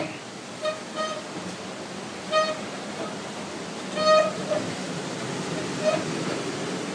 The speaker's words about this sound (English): Yes, this is our ignition switch, which is basically going to lift the sluice gate, which introduces the water onto the water wheel. So what we should hear in a minute is the sound of rushing water. Which is just starting now.